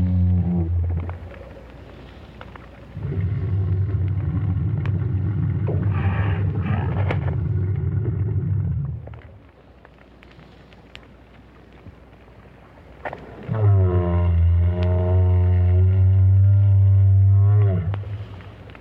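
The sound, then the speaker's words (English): A lone adult whale's deep, moaning calls, recorded by Roger Payne with a hydrophone at the bottom of the sea near Peninsula Valdez, Argentina: two long loud bellowing phrases with rising and falling tonal harmonics, separated by a quieter stretch of faint rumbling water noise. “Roger Payne recorded the whale with a hydrophone at the bottom of the sea near Peninsula Valdez in Argentina.”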